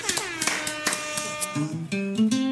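A short burst of clapping with sharp, scattered hand claps, then a loud horn honks out a few stepped notes that climb in pitch, clear with no talking; an applause and horn sound effect.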